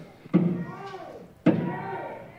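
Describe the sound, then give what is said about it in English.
Two loud, heavy bangs about a second apart as demonstrators outside a council meeting pound on the windows, with a voice speaking underneath and between the blows. “Our physical safety is being threatened by the actions of the demonstrators outside banging on the windows, which could easily get broken, and we will have a mob scene.”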